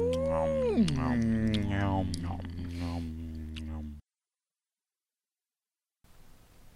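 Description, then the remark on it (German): Wolves howl in the background of a recited poem, in long, wavering, overlapping cries that rise and fall for about four seconds, then cut off abruptly to silence before a faint hiss returns. “Im Im Hintergrund Hintergrund die die Wölfe. Wölfe.”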